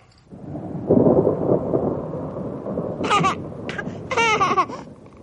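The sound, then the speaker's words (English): A deep, rolling rumble of thunder from a storm swells and lingers loudly for several seconds, while a baby's short, high vocal bursts cut through it toward the end. “He woke the storm.”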